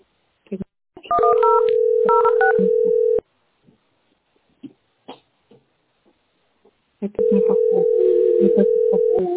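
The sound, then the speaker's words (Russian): A rapid run of telephone keypad beeps over a steady, loud phone tone, which cuts off, leaving a few faint knocks, then returns for several seconds. “Сейчас, куда звонит?”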